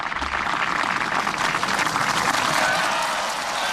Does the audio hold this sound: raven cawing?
no